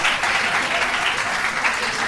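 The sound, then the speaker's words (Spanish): Steady, dense applause from a high school audience greeting a student athlete, many hands clapping continuously at a fairly loud level for the whole moment, with no one speaking over it. “Porque prácticamente sin presentarte ya te aplaudían, ¿eh?”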